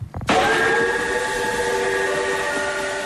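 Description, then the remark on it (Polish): A narrow-gauge steam locomotive whistle at the Narrow Gauge Railway Museum in Wenecja, Żnin county, Poland, blasts suddenly after a brief rumble and holds one long, loud, steady chord for several seconds, with no talking. “Stoi na stacji lokomotywa. Ciężka, ogromna i pot z niej spływa.”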